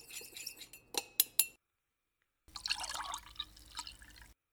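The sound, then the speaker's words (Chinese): Ice cubes drop into a glass with several sharp clinks while a gin and tonic is being made, then after a short pause the drink is stirred, the ice rattling and swirling against the glass for a couple of seconds. “先倒上冰块，然后搅拌。”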